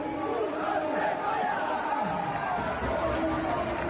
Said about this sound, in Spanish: Bueno, pues este era el grito seguido de aplausos de todo el Agustín Mourís al Noia Portus Apostoli tras ganar este sábado por 6-3 al Inter